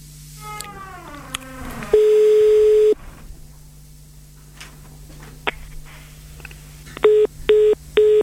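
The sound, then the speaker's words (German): Telephone dialing tones: a steady one-second tone, then three short, evenly spaced beeps near the end. A sliding, meow-like cry comes before them. No one speaks. “Alex sitzt jetzt hier schon neben uns und hat den Hörer schon in der Hand”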